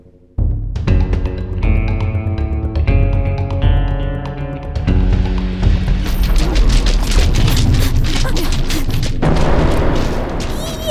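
A dramatic musical score builds, then a loud, sustained explosion erupts halfway through as Glacia and Tank destroy the first cannon, a booming, crashing rumble that roars on to the end over the music.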